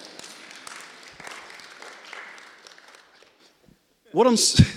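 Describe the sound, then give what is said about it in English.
An audience at a church service claps together in a dense, steady wash of applause that fades out after about three seconds. A short pause follows, then a voice begins speaking. “Sorry, I think that deserves a clap.”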